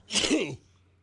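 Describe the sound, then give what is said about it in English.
A single sharp, fairly loud sneeze with a breathy noisy burst and a brief voiced catch, then quiet with a low hum underneath. “Bless you.”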